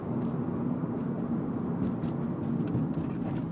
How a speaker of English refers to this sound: White bus coming into my lane. Please don't kill me. Not today.